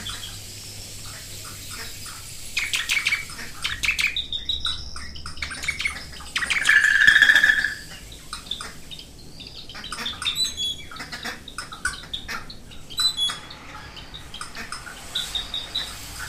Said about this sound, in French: Où que je sois, les oiseaux me revigorent. Plus encore, quelle que soit ma fatigue, j'entends un chant d'oiseaux et je me suis immédiatement ressuscité. Je n'y peux rien, c'est comme ça.